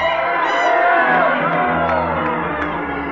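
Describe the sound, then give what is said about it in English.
A large wrestling arena crowd cheers and whoops loudly and continuously during a match, a dense roar of many voices with individual rising whoops and shouts standing out over the din. “It was what the crowd came to see.”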